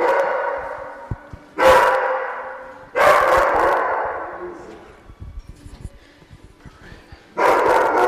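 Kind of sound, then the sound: animal, dogs barking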